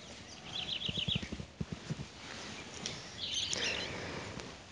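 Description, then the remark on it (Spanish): A parrot gives two bursts of quick, repeated chirping calls, with soft rhythmic knocking sounds underneath at the start and a faint background hiss throughout. “Desde nuestro punto de vista, lo que repite ningún tipo de significado para el perico, para el loro.”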